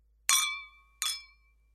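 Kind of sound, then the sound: household object, glasses clinking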